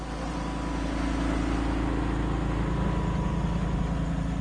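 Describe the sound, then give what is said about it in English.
A truck engine rumbles steadily at low speed as it moves along a levee next to a catfish pond at a catfish farm north of Belzona, Mississippi, spraying protein-rich feed pellets at feeding time; a continuous low drone with a faint hum above it, unchanging throughout, with no voices. “A truck moves slowly along a levee next to a catfish pond, spraying out small pellets of special protein-rich feed that hungry catfish swarm to and gobble up.”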